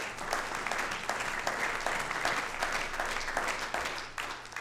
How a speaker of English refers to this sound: Give a little hand clap of praise.